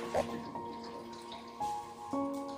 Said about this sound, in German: Jetzt lässt du das Wasser aus der Wanne und spülst euch beide noch einmal ab. Sunny schaut aufgeregt grunzend dem abfließenden Wasser hinterher, während du sie schon vorsichtig trocken rubbelst.